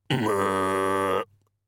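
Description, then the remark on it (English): A single drawn-out, throaty pig grunt imitated by a human voice, lasting about a second with a low, rasping, buzzy tone that cuts off abruptly. No words are spoken. “One turned to look at him with small red eyes, and didn't go oink, which was the sound that Mr. Crumley, born and raised in the city, had always associated with pinks. It went...”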